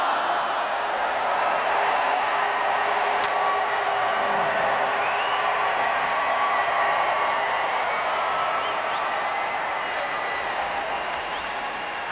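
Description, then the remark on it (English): A large outdoor crowd in Hyde Park at a prom concert cheers and applauds steadily, a dense wash of clapping and shouting that holds at a loud, even level throughout without any clear speech. “And finally, the crowd here across the street in Hyde Park.”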